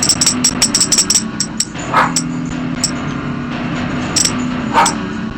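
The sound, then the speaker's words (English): A female dog barks a few scattered times at a tambourine that jingles in quick bright shakes, with a steady low hum of music or room noise underneath. “She's barking at the tambourine.”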